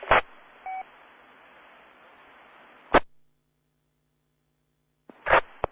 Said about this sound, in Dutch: Oeh, ik hoor een station heel diep in de ruis.